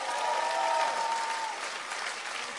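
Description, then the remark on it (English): An audience at a service applauds with dense, steady clapping that holds at an even level for a couple of seconds, blending into a continuous wash of hand claps without distinct individual beats. “Now, if you want to clap, clap.”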